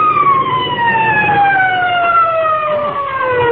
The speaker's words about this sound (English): Must be an awful big fire someplace, though, even if we couldn't find it. Hey, you know what? I can still hear them sirens. Listen.